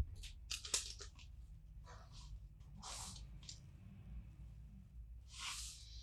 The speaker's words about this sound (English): This is so loud. Excuse me, truck. Dumpster truck in the middle of the street.